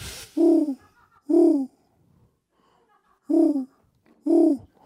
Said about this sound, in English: Owl solo! Owl solo. Owl solo!